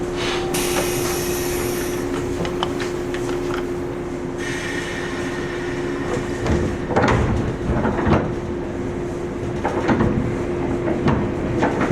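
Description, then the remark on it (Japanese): Train sliding doors thud shut inside a Tōhō Dentetsu (東方電鉄) rail car, a few sharp bangs and rattles over a steady low rumble and hum, with a high tone fading early on. “扉閉めます。”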